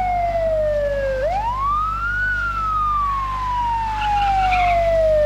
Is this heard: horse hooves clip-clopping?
no